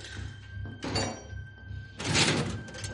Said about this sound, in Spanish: Repara en una puerta con candado. Lo rompe con la palanca. Abre la puerta.